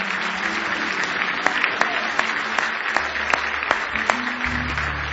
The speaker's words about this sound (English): Give Him another hand clap of praise if you love Him.